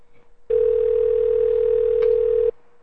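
A steady telephone dial tone hums at a single mid pitch for about two seconds as a phone call is attempted again, starting and stopping abruptly, with a faint click partway through and no talking.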